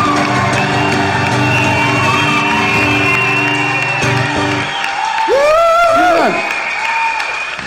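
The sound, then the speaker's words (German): After a count of four, a crowd applauds steadily and loudly, with scattered cheers and a few high, swooping whoops rising over the clapping, the clapping slowly dying away. “Eins, zwei, drei, vier und jetzt so langsames, ausklingendes Klatschen.”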